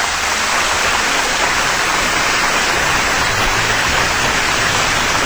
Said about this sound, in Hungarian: Na most van nekünk egy halva született nagypapák zenekarunk itten, és erre taps ünnepélyes.